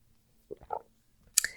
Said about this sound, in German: Lass uns zu Tipp 3 kommen und ich muss mal einen Schluck Wasser nehmen zwischendurch.